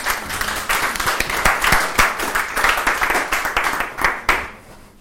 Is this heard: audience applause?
yes